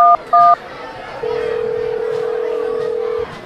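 telephone dialing tones

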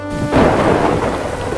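thunderstorm with rain

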